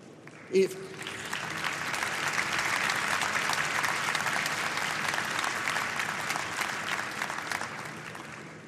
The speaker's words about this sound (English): I really wanted to repeat it, but you interrupted it by the applause.